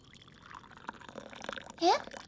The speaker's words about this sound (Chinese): 我要喝的是酒啊，你给我倒的是酒吗？为什么酒会冒热气啊？